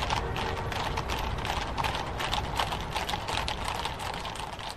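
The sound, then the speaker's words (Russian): Horses pulling a sleigh walk at an unhurried, even pace, their hooves clopping in a steady repeating rhythm throughout. The footfalls are moderately loud, with no voices. “И так едем мы медленно, мерно идут лошади, клонит ко сну, а кругом тишина, и нельзя уже сказать, давно ли мы едем.”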